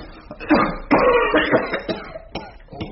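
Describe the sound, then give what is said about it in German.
A young man coughs hard and repeatedly, with harsh, raspy bursts coming in an uneven series. The fit rises, strains, then breaks into a few shorter coughs. “Sie husten sich ja die halbe Lunge raus.”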